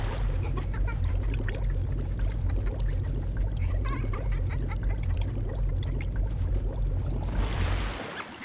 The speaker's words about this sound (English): You see, usually you're supposed to dunk your head in water and try to catch a floating apple, except... now, I'm going to dunk your head in and have you try to catch a breath of fresh air. Come on, the water's fine. Why don't you take a dip?